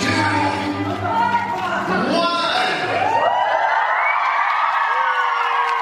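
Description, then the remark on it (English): A large crowd screams and cheers loudly as a one-minute record attempt ends, a dense wall of overlapping voices and whoops that holds steady throughout, with some higher shrieking rising near the end. “When the minute was done, everyone was screaming, cheering.”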